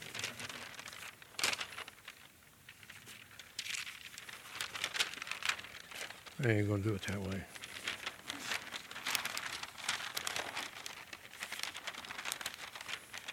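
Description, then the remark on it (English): Paper crinkles and rustles steadily throughout, fairly loud, with a man's voice briefly speaking over the handling midway. “The young man picks up the paper.”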